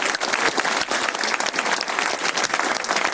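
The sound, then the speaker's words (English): An audience breaks into steady, loud applause for a first-prize winner, a dense patter of many hands clapping that holds at an even level for a few seconds with no voices standing out. “Congratulations on your first prize, and give it up, everyone.”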